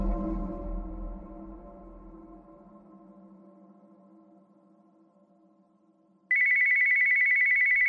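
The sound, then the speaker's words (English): A low, resonant tone slowly fades toward silence, then a cordless phone on a bedside table abruptly starts ringing in the dark at night with a loud, shrill electronic trill that continues until the end. “I fumbled in the dark for the jangling cordless phone on the bedside table.”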